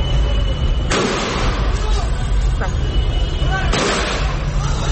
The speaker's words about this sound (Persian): اینجا در شهر عوض، یکی دیگر از شهرهای استان فارس، معترضان علیه رهبر جمهوری اسلامی شعار سر دادند.